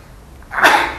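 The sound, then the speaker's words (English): A single sneeze bursts out after a brief quiet moment, a sharp, breathy explosion that is fairly loud, then trails off with a hissy rush of air. “Bless you.”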